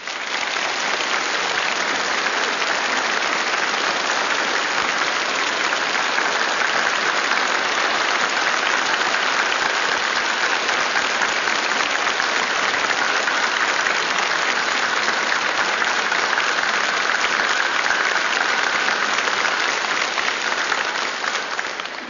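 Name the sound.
applause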